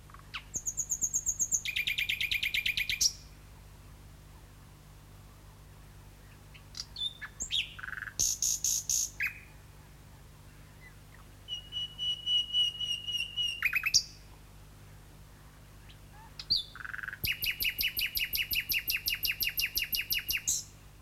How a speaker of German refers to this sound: Das war eine Nachtigall, die Athanasius Kircher mehrfach erwähnt.